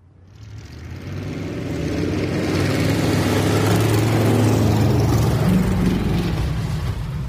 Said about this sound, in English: To say ice racing on Beluga Lake is a Homer tradition would be an understatement. The winter Sundays spent revving engines, speeding behemoth automotive monstrosities around an oval of ice, and filling the chilled winter air with man-made thunder